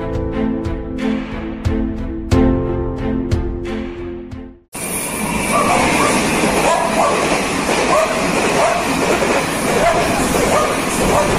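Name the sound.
train passing on rails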